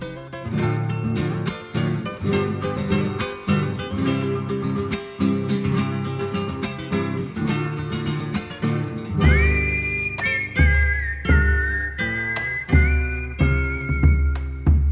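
Strummed, rhythmic acoustic music opens the piece; about midway a clear, high whistled melody enters and carries a sustained, gently wavering tune above the steady accompaniment. No voices are heard.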